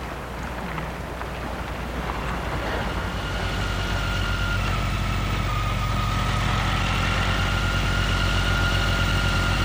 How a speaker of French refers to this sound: Or, il prend son scooter.